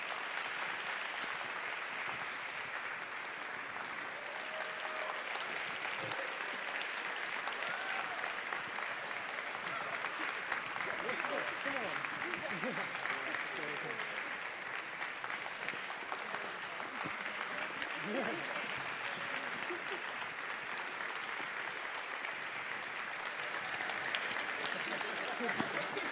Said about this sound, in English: The entire CEA staff that chipped in over the last few months to make this possible, come on out, guys. Round of applause for the full CEA staff.